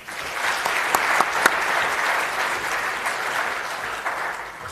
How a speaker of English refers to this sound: Yes, and please just give the panel a round of applause.